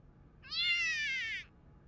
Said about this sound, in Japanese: 何今の？ 私のメール着信音だよーん。